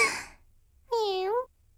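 A soft breathy exhale, then a single drawn-out cat meow lasting about half a second, steady in pitch, followed by quiet.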